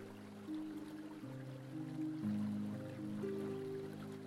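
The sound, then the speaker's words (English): A waterfall's water flows in a steady, soft rush that never pauses, blended with low, sustained musical tones that shift slowly underneath. No one speaks. “And when you're ready, drop the flower infused with your prayer and vision of the future into the waterfall.”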